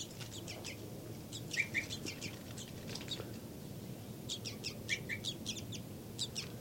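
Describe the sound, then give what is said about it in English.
A bird, individual 5-9 in a cell with a baby bird, gives a rapid series of short, high flight calls in two clustered bursts, sharp chirps repeated quickly, over a steady low rumble with no talking. “Flight call series by 5-9.”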